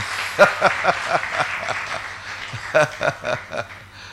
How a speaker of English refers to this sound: Let's clap for the ladies' choir, the women choir, our women choir. No, don't you see how smart these people are? Is that enough clap? Yeah, you better clap for them.